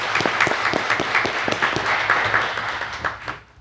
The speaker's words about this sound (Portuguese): Então, assim, eu gostaria de uma salva de palmas para esses professores, porque eles são merecedores.